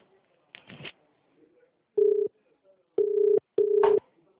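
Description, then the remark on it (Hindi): A brief rustle, then three loud, steady electronic phone tones, each under half a second, with the last two close together, as someone dials a phone call that connects. No one speaks. “अरे मैं फोन लगा रहा हूँ 5 मिनट में।”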